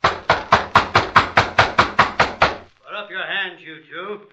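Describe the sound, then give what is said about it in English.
About eleven firm, evenly spaced knocks rap on the door at a house in quick succession, then stop as a man's voice begins speaking. “Knock again.”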